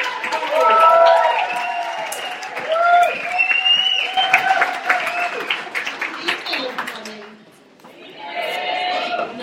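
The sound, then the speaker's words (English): An awards-ceremony audience applauds steadily for several seconds to welcome Lady Phil, director of UK Pride, as guest presenter of the media awards, with loud whoops and cheering voices rising over the clapping. There is a brief lull before the applause picks up again. “So round of applause for Lady Phil, who's the director of UK Pride.”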